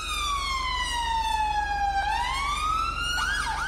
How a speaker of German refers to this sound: Einen ohrenbetäubenden Radau veranstalten englische Polizeiautos. Solche schrillen Töne wecken selbst Igel aus dem Winterschlaf. Aber auch in England reicht eine Einladung zum Tee beim König nicht aus, um die Sirene einschalten zu dürfen.